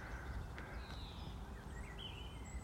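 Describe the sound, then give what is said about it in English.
Faint garden birdsong, scattered thin chirps and short warbling phrases over a steady low rumble of outdoor background noise, with no one speaking. “As you may be able to hear, we've gone from the cry of the grouse and the lapwing up on the moor to the ambient echo of garden birdsong.”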